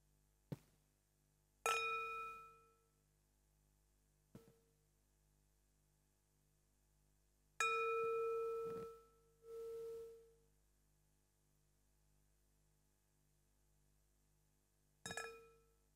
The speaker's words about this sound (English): And I will now ring the gong 3 times to end the meditation.